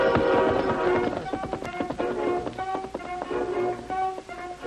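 Horse hooves clip-clop in a steady, trotting rhythm as the masked Lone Ranger rides into a ranch yard, with sustained musical tones playing underneath throughout.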